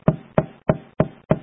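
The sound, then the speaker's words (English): Five firm knocks on a door, evenly spaced in a steady rhythm, fairly loud with a short hollow thud to each, and no talking. “He stands at the door and knocks on your heart.”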